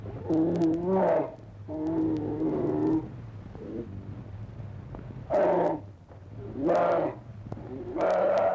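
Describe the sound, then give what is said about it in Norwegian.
A polar bear roars repeatedly in Tromsø, about five deep, drawn-out guttural bellows in close succession, loud, with a low rumbling growl continuing between the calls. “Når en i Tromsø hører isbjørn brøle, vet en at det er kommet fangstmenn til byen.”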